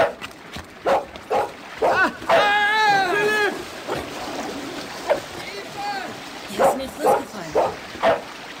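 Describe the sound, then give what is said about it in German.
A dog named Timmy, ordered to attack, barks and yelps in short, excited bursts, one drawn-out whining yelp among them, over a constant rush of flowing river water; people's voices come and go. “Timmy, fass! Nein! Ruf den Hund zurück!”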